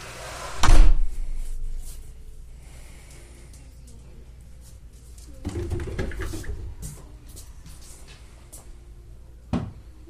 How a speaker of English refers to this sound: You want to shut that door?